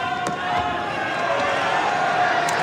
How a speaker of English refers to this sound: Encouragement for Dimitrov again from the crowd.